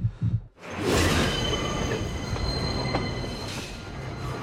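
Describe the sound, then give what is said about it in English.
A train rushes past on elevated tracks, its steady rumble loud, with sustained high-pitched wheel squeals ringing over the noise for several seconds. “Now, the sun flickers through the windows of a passing train.”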